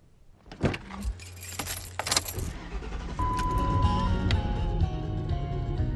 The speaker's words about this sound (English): I'm in my car, a Lincoln Continental Town Car. We're on Route 17 going north, and we're going to pick up some cigarettes.